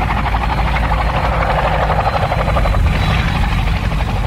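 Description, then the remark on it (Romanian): A police helicopter roars steadily for the whole stretch, its rotor beating in a fast, even chop over a deep engine rumble and broad whooshing noise, loud and without any voices. “Eu am să te ajut de aici, pentru că urmăresc la televizor transmisia din helicopterul poliției.”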